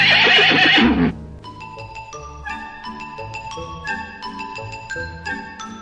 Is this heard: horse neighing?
yes